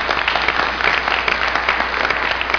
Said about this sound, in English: I have people here from FAS, do I not? Who do I have from FAS? Oh, stand up, FAS people. You need an extra applause. There you go.